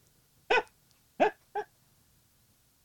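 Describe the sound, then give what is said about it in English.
Three short, sharp yelps from a coyote, two close together after the first, each a quick high-pitched cry standing alone against a quiet background. “Can't come here with that coyote.”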